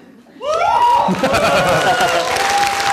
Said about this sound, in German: Wenn man dafür schon Applaus kriegt, das natürlich. Dann hat man es echt geschafft.